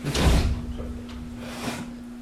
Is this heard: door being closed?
yes